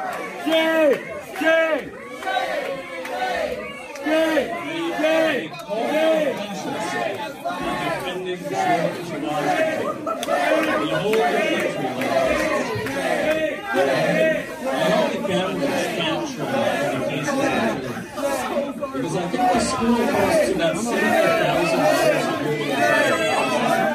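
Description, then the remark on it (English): A loud, dense crowd of student protesters, on their feet, shouts and shrieks continuously, overlapping yells and high-pitched cries such as "shame" and "fascist" forming a sustained roar of protest. “So it's hard to hear over the shrieks and the shame and fascist and all this”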